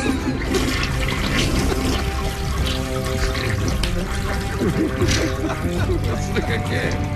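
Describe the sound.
A toilet flushes loudly and steadily for several seconds, a continuous rushing, gurgling wash of water, with people's voices faintly audible underneath.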